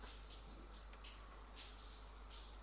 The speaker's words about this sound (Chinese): 背景里的雨声和我的声音之外，你什么都听不见。